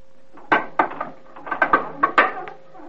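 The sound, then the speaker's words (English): A wooden trap door is hauled open in a burst of clunks, knocks and creaks, about eight irregular hard impacts over a few seconds, with no one speaking. “Then through the iron gate, a few steps west, then turn the corner, kick the carpet up, and open the trap door.”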